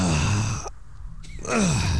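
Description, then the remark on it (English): A person yawns, a long voiced groan that breaks off for a moment of quiet, then resumes and slides downward in pitch before fading. “I just need a good yawn.”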